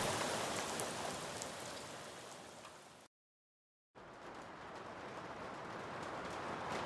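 Steady rain falls in a dense, continuous hiss with scattered drops pattering on a surface, broken by a brief stretch of dead silence before the downpour resumes at the same level.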